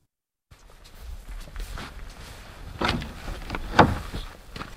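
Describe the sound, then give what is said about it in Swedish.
The door of an old barn creaks open, then footsteps thud and creak up steep wooden stairs to the loft, steady and heavy, with a sharper knock near the end, in Småland, Sweden. No one speaks. “In genom dörren till den gamla ladan. Och så uppför den där branta trappen till rännet.”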